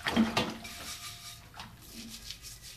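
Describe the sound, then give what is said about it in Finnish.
Dishes being washed by hand: clinks of plates and cutlery, a sharp clatter near the start, over a soft wash of running water. Fairly quiet, with no talking. “Keskity täysillä kehosi liikkeisiin tiskaamisen aikana.”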